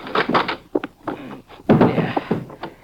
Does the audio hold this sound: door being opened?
yes